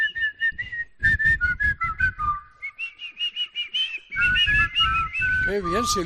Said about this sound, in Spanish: ¡Qué bien silbáis!